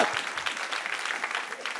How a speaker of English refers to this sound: Oh, you better clap for my country.